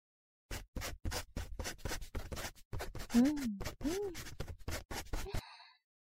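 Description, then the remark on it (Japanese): A pen scratches across paper in a quick series of short, irregular strokes as someone fills in a membership application form with name, address, phone number and emergency contact. A brief soft vocal murmur comes partway through before the writing stops. “じゃあ早速だけど、この入信申し込み書を書いてくれますか？”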